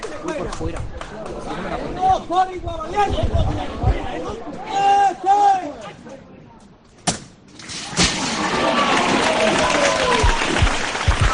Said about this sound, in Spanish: Pues la habéis podido escuchar, ¿no? La ovación, como han dicho, la guapa del barrio, y la ovación pues de todos los cofrades que aplauden ante el semblante de María Santísima de la Estrella, que vaya momentazo nos está dejando